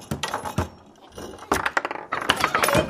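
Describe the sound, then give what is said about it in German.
A table football game in play: sharp, irregular clacks and rattles of the ball and rods, easing into a brief lull before a busier, louder burst of clattering. No one speaks. “Wir spielen jetzt Kicker und ich bin gut in Kicker.”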